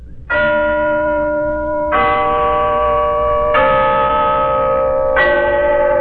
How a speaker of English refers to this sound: Yes, there's the clock in Glen Falls Town Hall, telling us it's time for Renzo's story of Big Sister